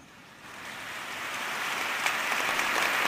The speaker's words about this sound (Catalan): Aquests aplaudiments espontanis donaran pas a les paraules.